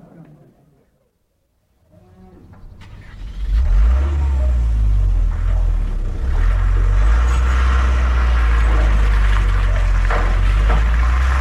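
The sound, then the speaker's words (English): After a few quiet seconds with faint murmuring, the engine of a big, bulky car starts up and revs into a loud, steady roar that continues to the end as the car pulls off. “I shall miss that car.”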